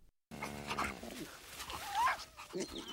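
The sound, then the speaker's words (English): A mother sheepdog and her puppies whimper and whine, high, wavering cries overlapping in a steady stream of soft yips and rising whines for a few seconds. “When this little pig has arrived at the farm, all the animals can talk, and what we hear is a mother sheepdog talking to her puppies about the pig and briefly with the pig and with a comment thrown in from a horse.”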